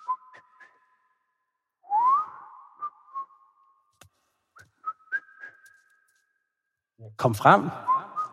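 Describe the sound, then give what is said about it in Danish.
Faint, distant whistling drifts in from some way down as thin sustained tones with a few rising slides and short pips, fairly quiet, before a voice speaks briefly near the end. “Jamen, du hører en svag lyd. Et stykke ned. En stemme. Eller en fløjten.”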